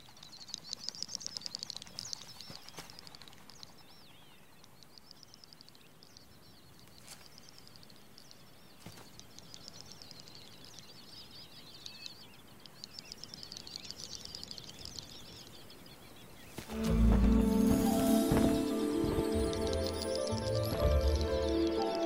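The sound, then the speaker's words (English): A great snipe's courtship song on a moor: high, rapid bubbling and twittering phrases repeated in steady bursts, before a louder, fuller sound takes over near the end. “It's the courtship song of the great snipe.”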